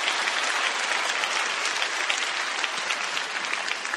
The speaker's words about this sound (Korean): 또 그 외 미디어 방송팀, 또 디자인팀, 영상 제작팀, 뭐 파킹에서부터 안내, 여러모로 계속해서 수고해 주시는 우리 분들을 위해서 격려의 박수 한번 하셨으면 좋겠습니다.